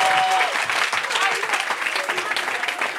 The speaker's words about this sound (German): Bitte großen Applaus